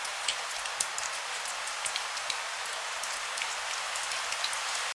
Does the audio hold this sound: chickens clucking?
no